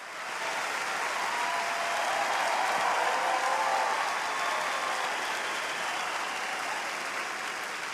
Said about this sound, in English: Veer is about to say something, waits for the applause to simmer down.